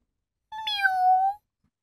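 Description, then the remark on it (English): A single drawn-out cat meow, clear, lasting just under a second with a slightly falling pitch, surrounded by silence. “Oh, and I've got three cats. They're very pretty. Meow. Meow.”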